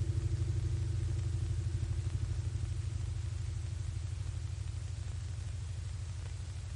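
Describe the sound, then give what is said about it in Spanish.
Street traffic with cars passing by a sidewalk, a steady engine rumble that throbs evenly and continuously throughout, with no voices. “espera en la acera y contempla los carteles de publicidad, a varias mujeres pasar y los coches.”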